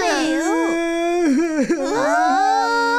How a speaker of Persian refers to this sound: چی شده؟ چرا گریه میکنی؟ گریه نکن. خب بگو چی شده دیگه.